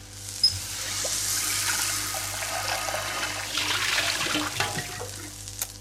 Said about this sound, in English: And put the electric kettle on so we can have a cup of tea.